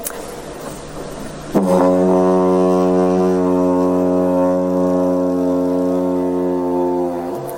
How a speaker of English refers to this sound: Now, this brings me on to the didgi, which I'm going to try and get a sound out of it here on stage. So, you know, forgive me if this doesn't sound particularly good